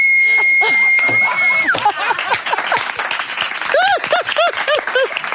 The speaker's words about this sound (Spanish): Yo tengo la capacidad, por ejemplo, de silbar sin los labios. O sea, hago así, estoy así.